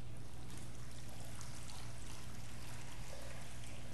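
Water pours steadily into a baptismal font during a baptism blessing, a continuous splashing rush lasting about four seconds with no pauses, loud, over a faint low hum and no speech.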